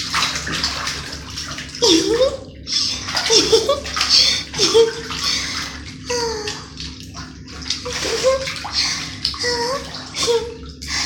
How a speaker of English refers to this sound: I just love taking baths. Especially bubble baths. They're so much fun. Especially with all the cute little bubbles around me. And I get to splash a lot.